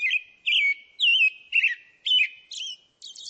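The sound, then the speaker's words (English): An American robin sings a clear, whistled song of short caroling phrases, about six in quick succession with brief pauses between, fairly loud with no background noise. “For example, some birds have clear singing voices, like this American robin.”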